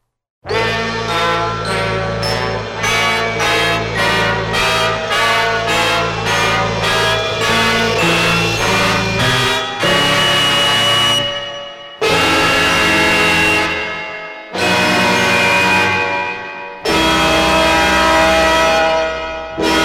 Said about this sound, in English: This is jingle number 5, Welcome Aboard the Spaceship. Welcome aboard the spaceship, WQAM. Listen to the sound of our outer space clock.